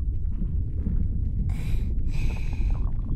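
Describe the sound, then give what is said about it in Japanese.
A deep, continuous low stomach rumble, broken by two raspy, buzzing fart bursts in quick succession, the second longer and drawn out, fairly loud with no voices. “あ、どう？お姉ちゃんの一週間分のおなら。”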